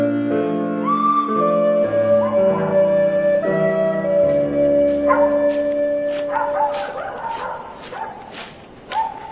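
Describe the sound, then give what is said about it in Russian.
Dogs bark and yelp over a steady, droning tonal background, with the barks coming in irregular bursts. “Сначала он услышал собачий лай, а затем мужские голоса.”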